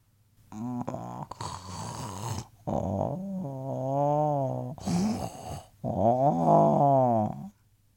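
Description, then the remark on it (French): A sloth gives several drawn-out, throaty calls with a wavering, moaning pitch, broken by short breathy huffs, fairly loud, with no talking. “J'imagine que vous avez trouvé le paresseux.”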